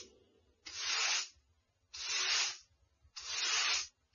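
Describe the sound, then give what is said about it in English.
Three evenly spaced swishing strokes of a broom sweeping a floor, each a breathy brush lasting under a second, with brief pauses and a faint low rumble between them. “So many times I told you, don't broom when I am sitting here. All the dirt is falling on my face and in my tea.”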